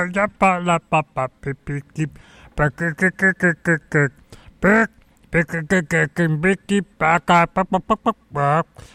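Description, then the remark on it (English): A person imitates a clucking chicken, voicing a rapid string of short, loud, nasal clucks, with a brief drawn-out squawk near the middle. “chicken, bok, chicken, no, she knows, and yeah.”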